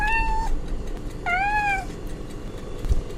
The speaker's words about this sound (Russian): Нет, это другая кошка